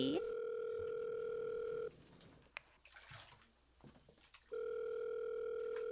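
A phone ringback tone on a call placed through Siri: a steady, mid-pitched electronic purr sounds for about two seconds, falls quiet with faint background rustle, then rings again at the same level.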